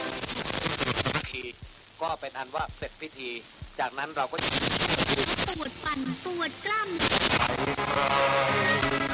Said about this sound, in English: Right, well, we've come inside now, away from the traffic, and connected up a radio in front of us. And if I just switch it on and scan the dial...